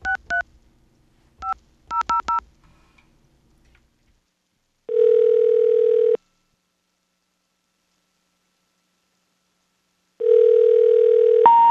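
Quick bursts of touch-tone beeps as a number is punched in, then a steady, fairly loud tone that holds for about a second and a half, stops, and returns near the end.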